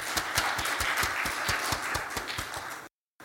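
A crowd applauds steadily, with dense overlapping claps and a few sharper individual hand claps standing out, holding a fairly even loudness for about three seconds before cutting off abruptly.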